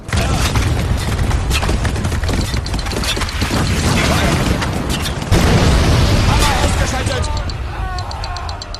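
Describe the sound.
Heavy artillery firing white phosphorus rounds, with repeated deep booms and rolling explosions, a dense continuous barrage that swells louder midway, with crackling bursts and faint shouting voices mixed in.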